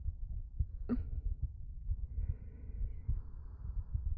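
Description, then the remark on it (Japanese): A woman's steady heartbeat, heard with an ear against her chest, thumps low and muffled, with regular soft beats repeating throughout and a faint rustle partway through. “ほら心臓の音、耳を澄ませてみて。”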